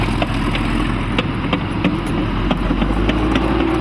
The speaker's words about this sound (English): You could hear the tanks coming now. In a few seconds, they would be on top of the two teenagers.